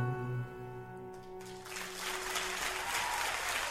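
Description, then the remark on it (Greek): Sustained musical notes hold briefly, then a dense wash of audience applause rises and carries on steadily to the end, with no one speaking. “Ευχαριστώ, ευχαριστώ για το χειροκρότημα.”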